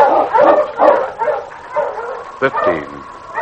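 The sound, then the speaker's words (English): A husky dog, King, barks several times in a loose, uneven series, with a sharp yip near the end and a whiny, whimpering edge to some of the calls. “Pardon you, husky!”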